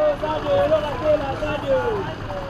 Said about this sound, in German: Berufsverkehr in Kolwezi. Autos, Busse, Lastwagen quälen sich langsam um eine scharfe Kurve.